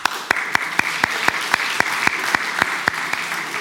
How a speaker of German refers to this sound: Klasse, wo sind denn die Krankenpfleger unter uns? Mal die Hände hoch. Alle, die mit kranken Leuten unterwegs sind. Na, du doch auch. Ja, mal einen Applaus.